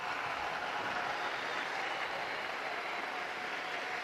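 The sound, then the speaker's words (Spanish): A large crowd applauds a newly beatified woman steadily for several seconds, a dense, even wash of many hands clapping at a constant loud level, with no voices standing out. “A la nueva beata la saludamos con un aplauso, todos.”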